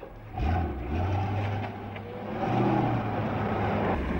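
vehicle, car driving away

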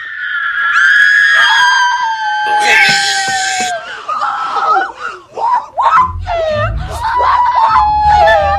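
human body sound, excited screaming

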